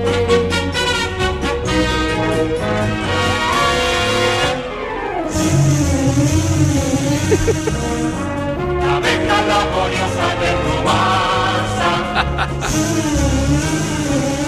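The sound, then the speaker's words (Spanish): The anthem of Rumasa, the Spanish business empire of Ruiz Mateos with its bee emblem, plays loudly and without pause, with full, bright instrumentation. A wavering melodic line rises in the middle, and crisp rhythmic accents punctuate the later part. “Pues tenía hasta himno propio. Vamos a escucharlo.”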